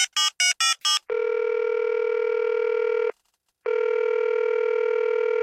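A quick burst of four touch-tone dialing beeps as a phone call is placed, followed by a steady ringback tone that pauses briefly and resumes, clear with no voices.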